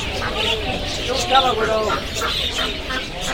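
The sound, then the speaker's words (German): A dense chorus of chirping, tweeting and cooing from many caged birds (canaries, pigeons, geese and chickens kept in small cages) in the live-animal section of the Sonora market, steady, with murmuring voices of a busy crowd underneath. “Kanarienvögel, Tauben, Gänse, Hühner, inklusive eingefärbte Pippeli, Hunde, Katzen, Schafe, Geissen, alle in kleinen Käfigen gehalten.”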